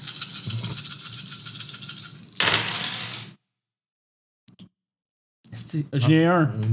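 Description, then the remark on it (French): Ten dice rattle steadily in a cup for about two seconds, then clatter loudly onto a surface, rolled for a pistol attack. A couple of faint clicks follow after a pause, and a voice begins talking at the end. “1 sur 10 dés.”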